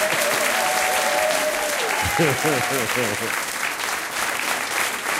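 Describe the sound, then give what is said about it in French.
An audience applauds the orchestra before it has played, in magnificent weather, in a dense, sustained wash of clapping, with a voice speaking briefly over the clapping partway through. “Et l'orchestre, c'est …, que je vous demande d'applaudir avant même qu'ils aient joué.”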